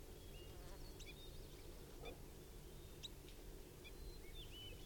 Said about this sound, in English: Birds are just chittering and giving soft calls now.